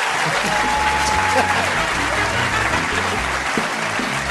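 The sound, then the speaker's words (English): An audience applauds steadily for the guest, Steve Coogan: a dense, loud wash of clapping that holds at an even level for several seconds, with a few faint tonal sounds threading through it. “Ladies and gentlemen, will you please give a massive round of applause for my guest, Steve Coogan?”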